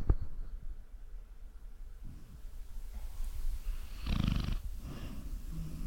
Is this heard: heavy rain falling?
no